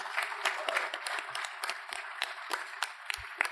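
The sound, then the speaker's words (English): A crowd applauds steadily, many hands clapping in a dense, continuous patter with occasional sharper claps standing out, at moderate volume. “So, once again, round of applause, final round.”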